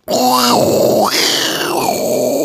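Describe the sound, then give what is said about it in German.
A person vocally imitates an airplane toilet flush: a loud, breathy roaring whoosh lasting a couple of seconds, its voiced tone rising and falling in pitch before settling into a steady hiss. “Wenn man im Flugzeug ist, ne? Ja. Und abspült, ne? Das ist dieses. Stimmt, ja, oder?”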